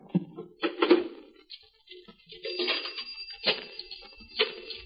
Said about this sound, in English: As I dialed the paper, I idly watched a seedy little character push his face against the restaurant's plate glass window and then come slowly into the place, shuffling uncertainly.